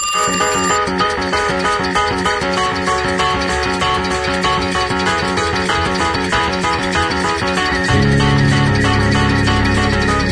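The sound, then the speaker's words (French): Telephone bells ring in dense, overlapping layers, pulsing rhythmically and loudly throughout before giving way to steadier sustained tones near the end. No one speaks. “Je me laisse bercer par ces ambiances de téléphone,”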